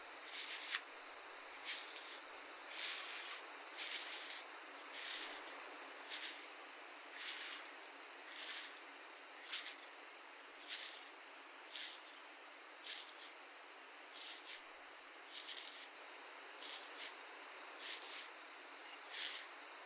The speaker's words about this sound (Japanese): しばらくこのままマッサージを続けて頭皮の汚れを浮かせていきますね。